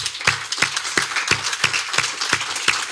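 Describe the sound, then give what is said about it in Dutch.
An audience applauds for a teacher, a dense wash of clapping with sharper claps landing in a steady rhythm, roughly three per second, at an even, moderate level with no voices. “Mag ik een applaus”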